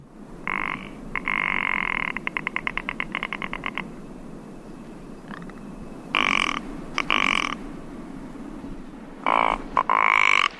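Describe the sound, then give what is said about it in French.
Harsh, croaking bird calls come in several bursts, one a rapid rattling series of clicks, over a constant low rush of wind. Between the calls only the wind remains. “Alors là, on est sur une crête ventée, et il s'agit d'un oiseau le plus peut-être certainement le plus menacé dans les Alpes”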